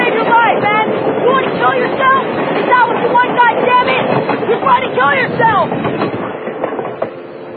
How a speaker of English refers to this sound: See, this is a long lens shot, and that train is very, very far away, but it makes it look like it's a lot closer.